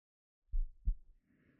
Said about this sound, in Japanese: またお兄様の頭を、胸で包み込むんです。まあまあ、今は心音もゆっくりですし、聞いてみてくださーいって。